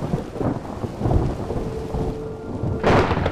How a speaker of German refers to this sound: Leise rieselte Regen in sein Haar.